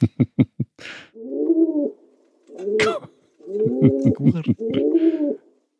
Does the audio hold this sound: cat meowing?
no